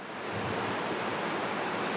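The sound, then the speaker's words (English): Rain falling at Whale Spirit Sanctuary in a steady, unbroken hiss, a dense wash of noise that holds an even loudness throughout with no voices and no distinct drops standing out. “Listen to the beautiful rain coming down.”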